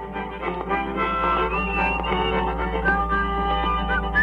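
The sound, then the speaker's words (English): A man whistles a melody over one of his own records, taped with an early tape recorder around 1950, overdubbing and harmonizing with himself; the thin sustained tones glide between notes and blend with the steady band accompaniment, moderately loud. “You could hear him overdubbing and whistling and harmonizing with himself.”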